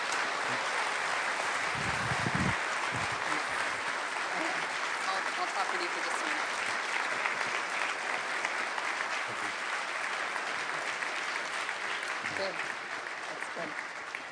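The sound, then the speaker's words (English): Sustained applause from a church audience welcoming a pastor onto the stage, a dense, steady wash of clapping that holds at an even level for the whole stretch, with a few faint cheers or voices mixed in underneath. “And congregation, can we give him a great round of applause?”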